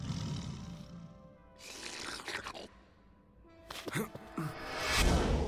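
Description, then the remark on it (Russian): Deep, rumbling cave bear roars come in two heavy bursts in a cave, with gravelly growls and crunching between them, building to a loud final snarl. “Разве что медведи пещерные.”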